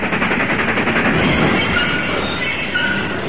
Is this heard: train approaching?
yes